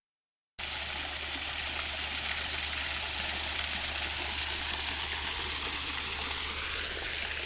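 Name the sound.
water flowing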